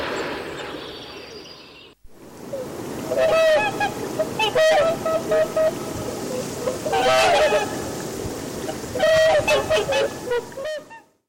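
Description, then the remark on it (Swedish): Whooper swans in Tyresö trumpet in loud, honking bursts, several birds calling repeatedly and overlapping in clusters over a steady outdoor background hiss, with brief pauses between flurries of calls. “Och sen hör vi sångsvanens trumpetande.”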